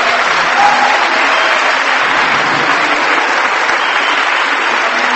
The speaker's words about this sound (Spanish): Démosle un aplauso, solo aplauso a Jesús.